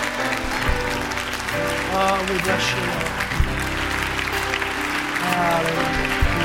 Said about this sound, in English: Stand, church. Let's give a clap and a praise unto the Lord.